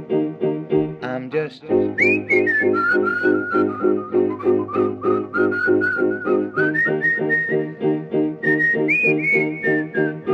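Someone whistles a sustained, wavering melody, the clear tone gliding between pitches over a steady rhythmic musical backing that pulses throughout.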